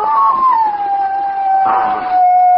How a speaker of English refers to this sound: The neighbor's dog's at it again